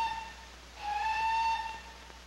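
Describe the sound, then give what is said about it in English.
A special train arrives in the heart of England, its whistle sounding a steady, multi-toned blast over a low rumble that swells for about a second and then eases away. No one speaks. “There's the special train.”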